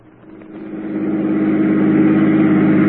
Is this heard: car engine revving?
yes